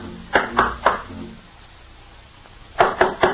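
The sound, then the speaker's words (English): Two sets of three sharp knocks on the door of an old house, evenly spaced and fairly loud, separated by a pause of about a second and a half. No voices accompany them. “All right, here, we'll just knock on the door.”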